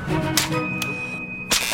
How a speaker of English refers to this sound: And the broom snapped in two.